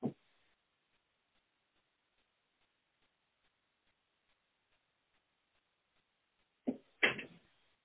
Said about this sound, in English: Everybody pause for a minute. I forgot to shut my door.